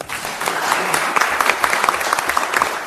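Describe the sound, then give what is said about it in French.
An audience applauds a speaker steadily, a dense sustained wash of many hands clapping at a fairly loud, even level throughout, with no talking heard. “Voilà, il fallait bien des applaudissements à la hauteur de l'énergie de l'orateur.”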